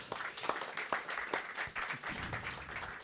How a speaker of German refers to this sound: Ein Applaus für Ingo Römling.